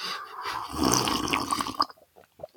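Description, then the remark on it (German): Tea being poured into a cup in the mountains: a steady, bubbling trickle of liquid that rises in pitch for under two seconds, then stops, leaving a few faint clinks and soft sounds. “Anders schmeckt der Tee auch nicht, oder? Hört sich das unterschiedlich an, ne?”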